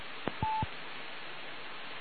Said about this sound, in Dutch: Ik sluit de telefoon af.